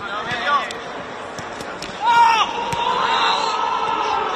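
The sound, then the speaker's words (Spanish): Real Madrid footballer Camavinga's loud, high-pitched scream rings out twice, briefly at first and then longer and stronger, over a steady background of voices and outdoor bustle, during Real Madrid's last training session at the National Stadium in Warsaw. “Ese es el sonido del grito de Camavinga que recogían las cámaras de los compañeros de Televisión Española en el último entrenamiento del Madrid en el Estadio Nacional de Varsovia.”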